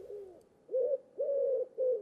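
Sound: dove cooing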